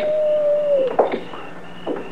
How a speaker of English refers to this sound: I wonder if Coyote's is as lonesome as they sound.